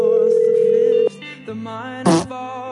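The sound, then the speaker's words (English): A telephone call rings on the line, a steady electronic tone holding for about a second before shifting into other tones and a short burst of noise, with nobody picking up. “They can't not answer the phone, can they?”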